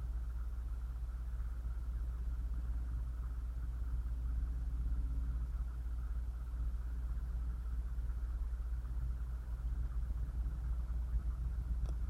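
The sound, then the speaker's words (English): Continuous highway traffic noise forms a steady, low rumbling roar with a broad hiss above it, holding an even loudness throughout without breaks or voices. “They can be quite subtle compared to the background noise of the highway.”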